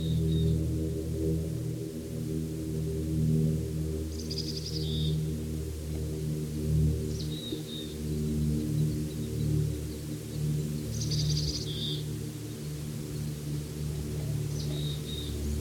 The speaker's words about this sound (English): Several birds, at least three anyway, have been chorusing with these two calls.